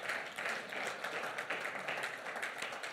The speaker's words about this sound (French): Oui, applaudissez le Seigneur.